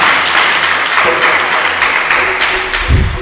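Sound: loud audience applause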